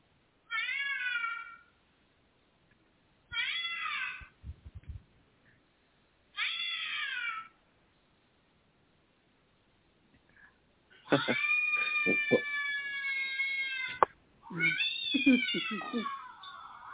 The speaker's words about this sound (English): Can you hear the cats? Can you hear the cats?